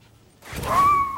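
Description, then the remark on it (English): After a brief quiet moment, a puppy in a video game set in Afghanistan gives a thin, high whimper over breathy panting, fairly loud, lasting under a second. “What's a cute dog doing in the middle of Afghanistan? It's a puppy.”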